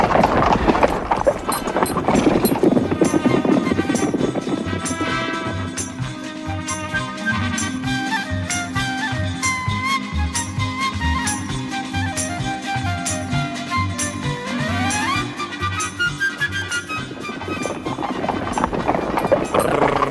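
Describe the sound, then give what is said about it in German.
Steady clip-clop of horses' hooves as riders travel along, a rhythmic trotting beat that continues throughout, with tonal music swelling alongside the hoofbeats. “Ich muss mich an meine Befehle halten. Los, Gerard. Wir reiten auch weiter.”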